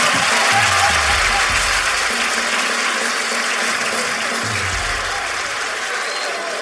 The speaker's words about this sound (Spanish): El público te brinda este aplauso.